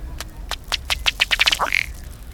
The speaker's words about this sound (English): He inflates his neck and faster strikes his chest with his bill. These blows force air through the feathers, causing the water to bubble. The male's display ends with his head and tail jerking forward and a low belching sound.